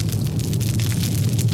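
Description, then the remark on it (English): A steady roar of fire with a deep rumbling low end, sprinkled with irregular sharp crackles and pops throughout, with no voices; a sound effect built from roaring fire with crackling fire added. “And finally some crackling fire.”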